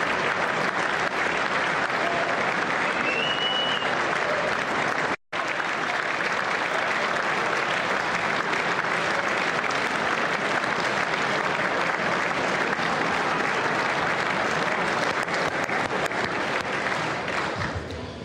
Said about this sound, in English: Some are even clapping. Yep.